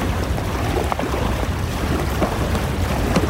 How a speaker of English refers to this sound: I think that's the tidal surge. Oh, shit. We're in deep water. It shouldn't break this far out.